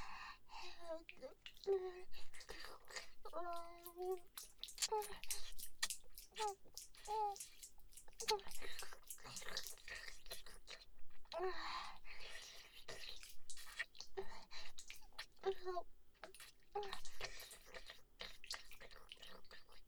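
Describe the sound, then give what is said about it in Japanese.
Soft wet mouth noises, with squishy chewing done without the teeth and quick tongue flicks and clicks repeating irregularly, mixed with intimate whispering throughout. “歯を当てないようにもぐもぐして、君の清掃を舌でコリって弾いちゃうの。”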